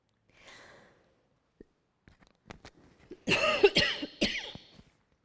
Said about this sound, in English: I don't like coughing into microphones.